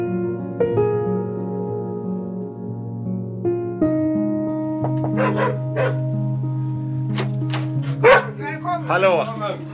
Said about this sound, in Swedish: Det är en hund här som är taggad. Jag förstår.